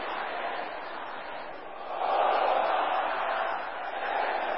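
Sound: audience shouting together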